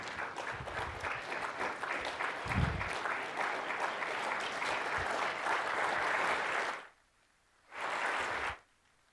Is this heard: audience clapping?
yes